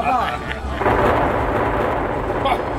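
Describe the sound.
A loud, sustained rumble of thunder and earthquake-like roaring fills the scene, a deep continuous crash that swells after a brief voice at the start and never lets up.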